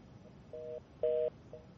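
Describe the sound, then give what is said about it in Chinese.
A telephone line trying to connect to a guest in Beijing during a Voice of America talk show: short, steady electronic tones repeat at brief intervals over faint line hiss, the middle beep louder than the others, with no voices. “好的，张先生的电话呢现在可能还没连上。”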